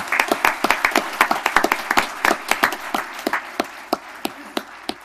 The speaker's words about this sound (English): We don't normally allow applause in this chamber, but let's hear it for our employees and our net volunteers.